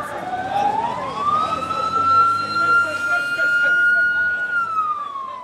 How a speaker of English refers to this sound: So in the space of just a few minutes, six ambulances pulled up.